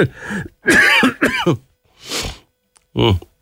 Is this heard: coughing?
yes